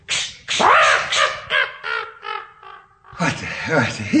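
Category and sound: bird, crow cawing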